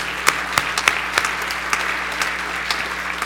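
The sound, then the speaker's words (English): An audience applauds a beautiful Minnesota day, clapping together in a steady, dense patter of many hands, with sharp individual claps popping out of the mix at a moderate level throughout. “Let's applaud that day.”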